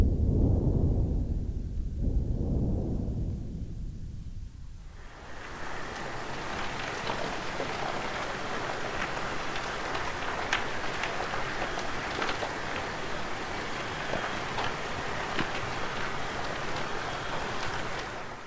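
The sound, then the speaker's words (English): A deep underwater earthquake rumble swells and fades twice, then gives way to the steady, dense hiss and crackle of a submarine landslide, loud and continuous with no voices. Recorded off the coast of Monterey Bay, California, by the Monterey Bay Aquarium Research Institute. “And so the first one was an earthquake. The second one was recorded during a submarine landslide.”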